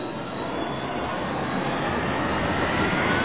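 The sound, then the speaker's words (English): A loud, steady roar of a starfighter engine running at full thrust: dense, rushing jet-like noise that holds strong throughout and swells slightly toward the end, with no voices. “Then she brought her engine thrust up to full power.”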